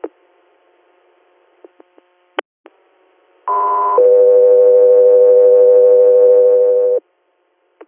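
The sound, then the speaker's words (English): Radio dispatch alert tones: a short, higher steady tone followed by a longer, lower sustained tone, loud and clear over faint static with a few scattered clicks beforehand. “Echo 3 Air, stand by for tones.”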